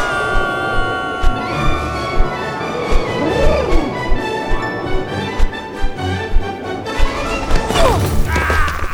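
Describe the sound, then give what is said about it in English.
An aircraft crash landing: a steady droning engine with sliding whines and a regular pounding thud, ending in a loud, rattling crash of impact. “Well, I'm a little banged up, but not even that crash landing could crack this coconut”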